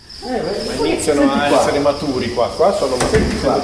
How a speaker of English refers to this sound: the trill that we're hearing is actually the mating call of 45-day-old male crickets.